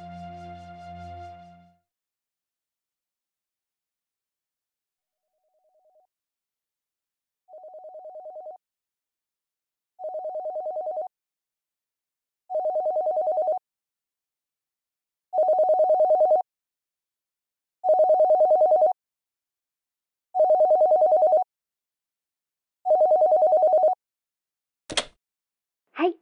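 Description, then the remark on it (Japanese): A telephone rings about eight times in a steady rhythm, each mid-pitched tone lasting a second or so and growing louder, then a short click as an answering machine picks up the line. No one speaks. “ただいま留守にしております。発信音の後にメッセージをお願いいたします。”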